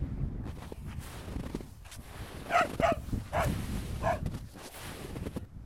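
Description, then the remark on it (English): Dogs playing far away in Rohatabad village, giving a few short, high yips and barks in an uneven burst over a steady low rumble of wind. No one speaks. “I just hear the sound of wind and some dogs that are playing far away.”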